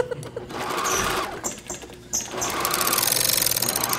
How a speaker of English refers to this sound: This is a straight stitch. That is a hand machine. That is a leather machine.